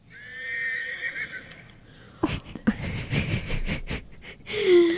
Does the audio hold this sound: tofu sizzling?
no